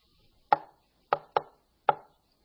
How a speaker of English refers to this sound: And then you're sitting at home one evening and you hear a knock.